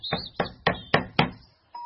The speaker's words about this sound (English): The pig knocked on the door